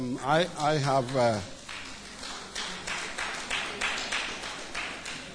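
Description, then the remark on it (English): A brief burst of voice gives way to a run of sharp, steady claps, several hands clapping at a moderate, fairly even pace with a dull murmur underneath. “Are you clapping for him?”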